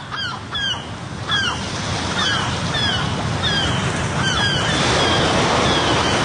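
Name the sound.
sea waves and surf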